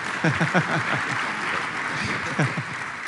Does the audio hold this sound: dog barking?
no